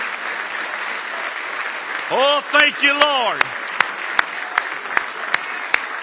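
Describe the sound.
A church audience at a Sunday morning camp meeting in Happy Valley claps hands in praise in a steady wash of applause; a voice speaks briefly over it, then sharp, evenly spaced claps ring out in a regular rhythm as the noise continues.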